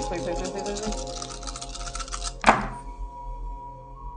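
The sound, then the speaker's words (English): Seven dice rattle steadily in a cup or hand for a couple of seconds, then land with a single sharp clatter that quickly fades, with faint voices murmuring underneath. “All right, so that is, once again, 7 dice.”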